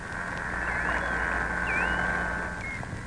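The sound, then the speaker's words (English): Whale chirps and whistles recorded at sea: several short, gliding high-pitched sweeps that rise and dip, sounding over a steady tonal drone and constant hiss, with no one speaking. “Whales generate chirps and whistles to communicate, navigate, and to find and identify food.”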